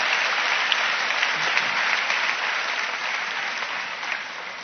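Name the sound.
audience clapping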